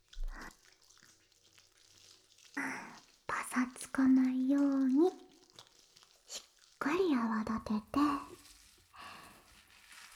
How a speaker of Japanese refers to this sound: 薬用のシャンプーで綺麗にしていくね。少し泡立てる必要があるから、まずは泡立てる音両耳に聞かせてあげるからね。